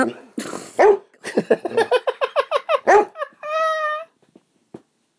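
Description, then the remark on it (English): A person imitates a barking dog at close range: a couple of rough bursts, then a rapid run of about ten yapping barks, ending in a drawn-out howling whine. “You do a very good impression of a dog.”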